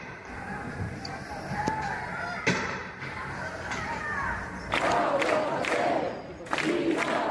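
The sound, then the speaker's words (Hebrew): A protesting crowd in the streets of Barcelona, Spain, in the evening, burning tyres and garbage bins and calling for a jailed rapper's release, roars and shouts continuously while sharp, loud police gunshots crack through at irregular intervals as police disperse them, followed by bursts of louder yelling. “כך זה נשמע אמש ברחובות ברצלונה, יריות השוטרים שמפזרים את המפגינים המבעירים את הצמיגים ופחי זבל, קריאות לשחרורו”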